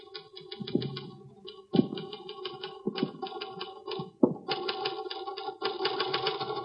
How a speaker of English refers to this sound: That's an interesting letter you're typing.